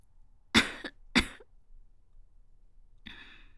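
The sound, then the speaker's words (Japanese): Two sharp coughs about half a second apart, followed after a pause by a softer breathy exhale, with no talking. “申し訳ありません、なんか咳が止まらないようで。”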